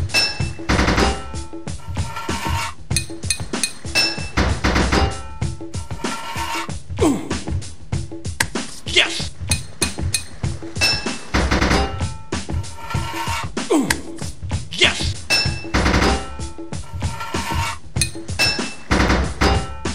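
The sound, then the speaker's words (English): Rapid metallic clanks and thuds from a video game, hammer blows ringing against pipes in quick bursts as pipes are fitted, four hits to fit each pipe, loud over busy game sound effects, with no voices. “4 hits of your hammer to fit a pipe.”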